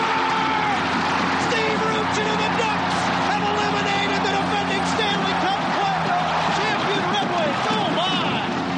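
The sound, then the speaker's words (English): A hockey crowd inside the Arrowhead Pond cheers as the Mighty Ducks of Anaheim finish off the Detroit Red Wings, a dense, unbroken roar of many voices, holding steadily loud for the whole stretch, with individual shouts rising and falling through the din. “Sure sounds like hockey passion, like the sound inside the Arrowhead Pond when the Mighty Ducks of Anaheim finished off the once mighty Red Wings of Detroit.”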